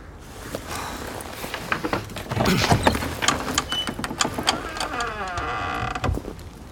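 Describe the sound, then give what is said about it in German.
A door is opened with a series of clunks and rattling mechanical knocks, then a drawn-out creak toward the end, moderately loud. “Wir machen die Tür auf.”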